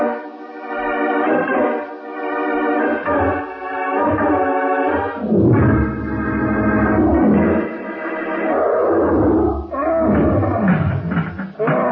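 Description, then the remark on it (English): A large caged ape named Bongo roars loudly for about twelve seconds, a rough, throaty bellow that rises and falls in pitch with brief pauses for breath, and no one talks over it. “Bongo, move back away from that cage door, you big ape.”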